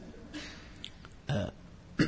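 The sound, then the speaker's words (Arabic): A short, sharp sneeze bursts out during an Islamic lesson on Surat al-Hashr, with a smaller breathy follow-up burst a moment later and no talking. “رحمك الله”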